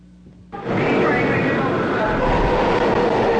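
A New York City subway train roars into the station: after a quiet low hum, a loud, dense rumble with a hissing, screeching edge swells in abruptly and holds steady.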